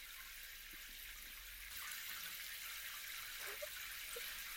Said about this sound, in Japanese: これくらいでいいかな。あったかくなってきた。シャワー当てるから、もし冷たかったり暑かったりしたら言ってね。